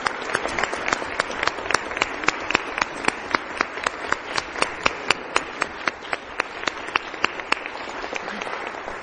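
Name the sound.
applause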